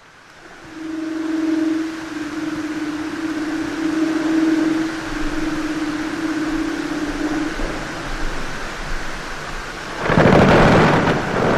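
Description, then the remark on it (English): Breaking Antarctic glacier ice, recorded in Antarctica, bursts out near the end as a loud, broad rumbling crash, after a long stretch of a steady low droning tone over a faint background hiss. “These sounds of breaking glaciers and the songs of leopard seals were recorded in Antarctica.”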